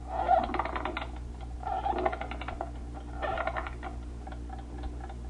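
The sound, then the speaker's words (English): Rapid mechanical ticking from a Baby Ben wind-up alarm clock on a brass stand comes in short bursts separated by brief pauses, moderately loud over a steady low hum. “Jones, went to bed around 11, and he had set the alarm for 7:15.”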